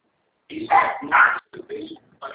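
A dog barks several times in quick, uneven bursts, loud, with short yips between the louder barks over about two seconds.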